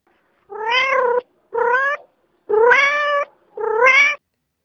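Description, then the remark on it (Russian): A cat, Vaska, meows four times in close succession inside a house, each call loud, drawn out and nasal with a slight rise and fall in pitch, with no other sounds around it. “А кот в доме.”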